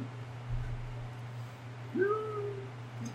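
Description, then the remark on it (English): A single soft whimper from a character in wolf form pawing at a door during a role-playing game: a brief whining tone that rises and then slowly trails off, heard over a steady low hum with no talking. “Sound of gnomon whimpering.”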